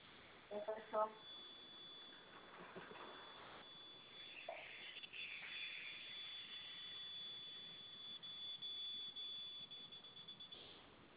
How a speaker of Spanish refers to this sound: Ya empezó a pitar la alarma.